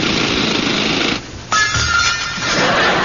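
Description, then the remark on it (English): A dentist's drill whirs loudly and steadily, cuts out for a moment, then starts up again with a sharp high-pitched whine that carries on to the end. “One final drill.”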